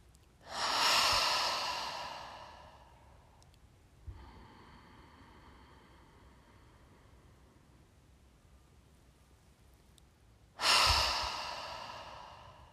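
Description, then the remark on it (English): A deep, loud breath drawn in and released through an open mouth during a guided breathing exercise, eyes closed, hands on heart and belly, followed by a stretch of faint steady hum, then another big breath begins near the end. “Take your hands onto your heart and belly and take a deep breath in. Open your mouth and let it go. Let's do that twice more.”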